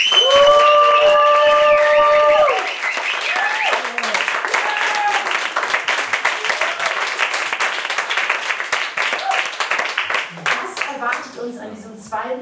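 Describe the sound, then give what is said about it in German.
An audience at a poetry festival evening bursts into sustained applause, dense steady clapping with some cheering over it, loud throughout and slowly thinning toward the end. A brief tonal jingle plays at the start. “Macht einen großen Applaus für unseren heutigen Abend.”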